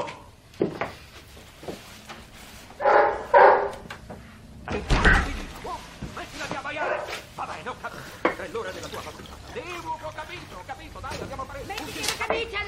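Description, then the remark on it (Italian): A dog barks in a few short, sharp bursts, followed by thumping and shuffling noises with indistinct voices in the background. “Mi manderai al manicomio e non posso farci niente se il cane abbaia.”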